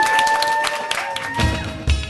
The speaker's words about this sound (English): Thank you all. Thank you all. And let's have an applause for you, but louder. Yeah. Come on.